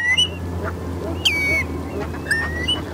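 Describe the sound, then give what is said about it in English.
Many wetland birds, including ducks, geese and waders gathered in winter, call over a low steady rumble, with thin whistled and slurred cries, some overlapping, and scattered fainter chatter between them. “From October until April, it literally becomes a vast restaurant for thousands of wetland birds.”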